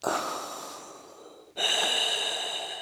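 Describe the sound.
Two loud, drawn-out mechanical breaths, an inhale then an exhale, with a hissing, filtered rasp like someone breathing through a respirator mask, with no talking; the breathing of a Dark Lord of the Sith.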